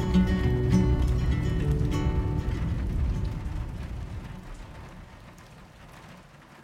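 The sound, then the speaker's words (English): Steady rain falls with a dense, hissing patter over a low rumbling undertone, gradually fading softer toward the end. No voices are present. “So hopefully you guys felt super festive and October-y in this rainy day weather, chatting all things witches.”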